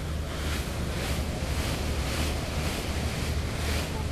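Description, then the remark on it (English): Steady ocean surf and gusting wind fill the air, with low rumbling wind buffeting the microphone, aboard a whale-watching boat that has slowed down at sea about 15 miles south of New York City, in the New York Bight. No voices. “The boat slowed down about 15 miles south of the city in an area of the ocean called New York Bight.”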